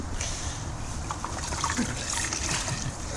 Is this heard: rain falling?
no